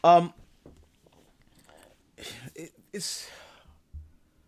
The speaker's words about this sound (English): Here comes the coffee sip. I don't care if you don't like it.